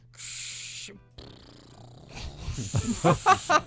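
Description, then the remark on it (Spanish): A voice imitates aircraft landing gear: a steady hissing whoosh, then a rough rumbling stretch that builds into about five loud, rhythmic guttural pulses at the end. “¿Cómo suena el tren de aterrizaje?”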